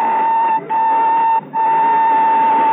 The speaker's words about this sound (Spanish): Tras el silbido de partida, se acciona la palanca de arranque y las bielas de las ruedas comienzan su vaivén. La locomotora se pone lentamente en marcha.